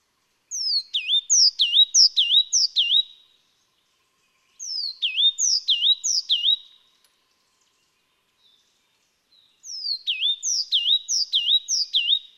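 A Himalayan black-lored tit (Machlolophus xanthogenus), a yellow-and-black bird with a black crest, calls in three clear bursts, each a quick run of bright, sweeping whistled notes repeated several times, with short silent gaps between bursts and no talking.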